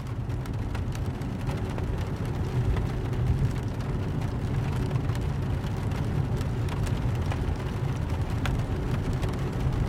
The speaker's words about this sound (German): Es regnet. Die Welt ist gedämpft.